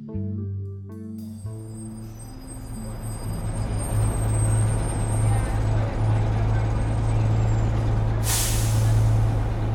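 A bus idles with a steady low engine rumble and background noise, then its air brakes release one sharp, bright hiss near the end as it reaches a stop in a small suburb outside the city.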